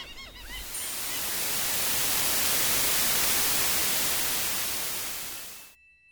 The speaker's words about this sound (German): Wie Sie sich denken können, beginnt alles mit Rauschen.